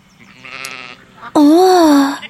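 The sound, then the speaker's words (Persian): Two lamb bleats: a quieter, wavering one first, then after a brief pause a much louder, drawn-out bleat with a rising-and-falling quaver, sounding alone without any talking. “به جای اون صدای خندیدن و صدای قاز رو میشنیدم، صدای بره هایی که با سر و صدای زیاد بعبه میکردن و چرخای واگونی که روی خیابون تلق تلق میکردن.”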